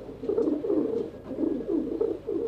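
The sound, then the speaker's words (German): Pigeons cooing steadily, a soft, throaty burble repeating in rolling phrases with brief pauses, no voices present. “Finn Fuchs vermisst das Taubengurren”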